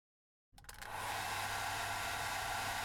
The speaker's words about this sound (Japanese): よいしょっと、ドライヤーつけるね。